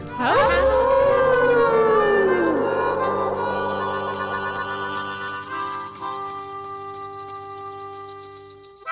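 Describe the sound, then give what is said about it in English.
Several people, on a count of three, howl together like dogs in a 'Howl at the Moondog' for the Moondog Show, their voices swooping upward and then sliding down into long, wavering tones that hold loudly for several seconds before slowly fading. “Okay, at the count of three, we're going to do Howl at the Moondog.”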